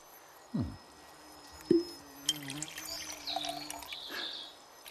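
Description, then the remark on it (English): A complimentary bottle of wine from Greenland is poured into glasses while waiting for a restaurant table, starting with a couple of soft clinks, then a bubbling, gurgling stream whose pitch rises as the glass fills. It is fairly quiet, with no talking. “We would like to offer you a complimentary bottle of wine from Greenland while you wait.”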